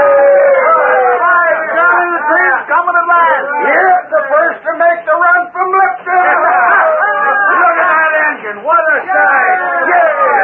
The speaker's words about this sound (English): A curious and expectant crowd had gathered at the small new depot in Silverton. Suddenly, as the distant sound of a whistle was heard, they waved their hats and cheered loudly.